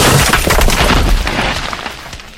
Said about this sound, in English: Boulder crashes into brick. You get crushed by a boulder.